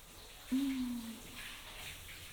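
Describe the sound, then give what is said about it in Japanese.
A soft, steady hiss of shower water rinsing someone off, broad and even throughout. A brief low humming tone rises over it for about half a second near the start, then fades. “はい、一回シャワーで流すよ。”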